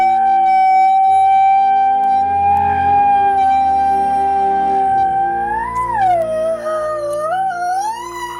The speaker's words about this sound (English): Every year, thousands of Americans hear a siren and immediately assume severe weather is approaching. But experts say that's not always the case.